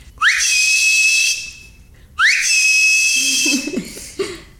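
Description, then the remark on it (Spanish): A person whistles a signal call twice, each loud, piercing whistle swooping upward and then holding steady for about a second, with a short pause between. A brief low voice or chuckle follows. “Me acuerdo exactamente del chiflido, era así.”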